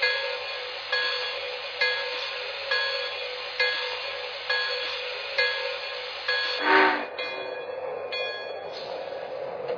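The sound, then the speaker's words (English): Train number 17 rumbles at a station platform on track one in Chicago with steady, rhythmic thuds roughly once a second, then a short, loud burst of hissing air near the end; no one speaks. “Chicago One Track One, train number 17.”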